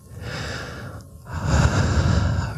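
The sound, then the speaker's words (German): Slow, airy ASMR-style breathing into the microphone: a soft inhale, a brief pause, then a longer, louder, breathy exhale right against the microphone, with no talking. “Wir atmen erstmal ganz ruhig.”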